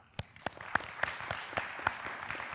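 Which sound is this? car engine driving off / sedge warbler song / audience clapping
audience clapping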